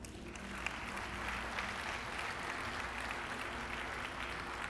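A crowd claps steadily throughout, a dense, even wash of many hands with no pauses or swells, sustained at a moderate level for several seconds with no voices over it.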